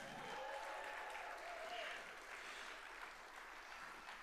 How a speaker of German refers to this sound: Einmal ein Applaus für den zweiten Platz. Ein Applaus für den zweiten Platz.